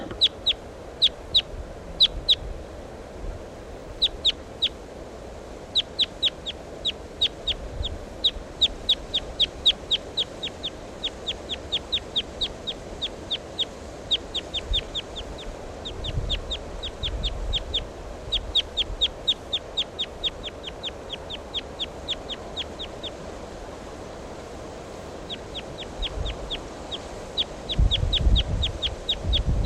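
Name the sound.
wild bird calling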